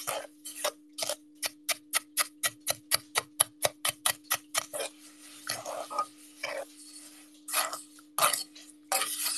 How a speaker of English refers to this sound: I guess I just have to let it cool. The sound of crunchy cooked sand.